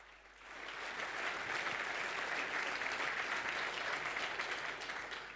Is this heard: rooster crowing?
no